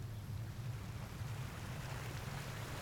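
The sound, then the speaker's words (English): A steady, dense roar of fast-flowing water frothing white as it rushes over rocks and tumbles down into a waterfall towards large black boulders below, constant and full with a deep low rumble beneath the hiss, with no voices. “Fast-flowing water froths white as it ripples over rocks and down into a waterfall.”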